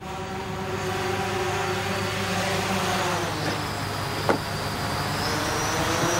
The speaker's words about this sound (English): Amazon Prime Air, deliver your item in 30 minutes by drone, as an Amazon drone here buzzes through the sky over fields and rivers before dropping off a package at the customer's front door.